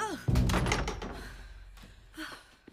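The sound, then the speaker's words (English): A broomstick thrown aside by Wendy in a foyer lands on the floor with a loud wooden clatter and thunk, then a couple of fainter rattling knocks follow as it settles. “Wendy throws the broomstick aside.”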